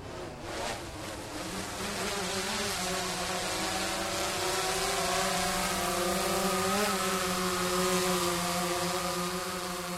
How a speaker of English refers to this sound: How about we bring your drone back in for a landing, Ryan? We'll get a little sound of that.